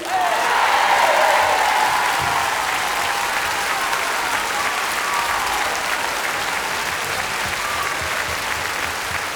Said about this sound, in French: J'aimerais qu'on applaudisse très très fort la famille Waku.